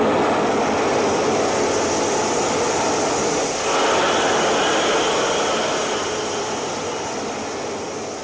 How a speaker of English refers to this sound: Now there's a hissing sound.